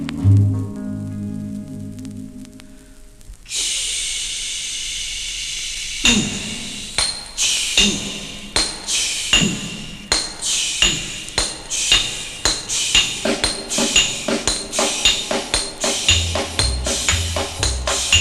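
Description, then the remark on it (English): Hammers strike steel again and again, each blow a sharp, ringing clang, falling into a steady, quickening rhythm after a low rumbling opening. The metallic impacts are loud, with no voices. “Listen to hammer swingers talking to you.”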